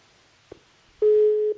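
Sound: telephone busy tone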